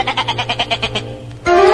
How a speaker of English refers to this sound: Wait, here are three little fellows from the farm we left out. The sheep.